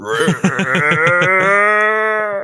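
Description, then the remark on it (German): A person imitates a bleating sheep with one loud, quavering vocal call that wobbles rapidly at first, then holds a steady wavering tone for about two seconds before stopping. “Das klang jetzt eher wie so ein Schaf, glaube ich, aber egal.”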